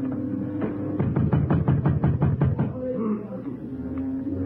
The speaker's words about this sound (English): Then I heard them try the door.